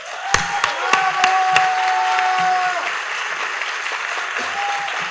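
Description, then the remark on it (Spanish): Steady audience applause for several seconds, honoring the director of Jack México, with dense clapping, a few sharper claps and scattered voices or cheers mixed in before it gradually thins. “Les pido por favor un fuerte aplauso para mi super amigo, mi gran hermano, nuestro director de Jack México”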